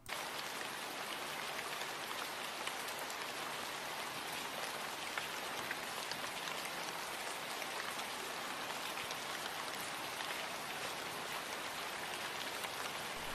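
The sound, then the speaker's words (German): Rain starts to fall and pours down steadily, a dense, even hiss of countless drops pattering on a surface, holding constant for the whole stretch with no voices. “Oh nein, jetzt fängt es auch noch an zu regnen.”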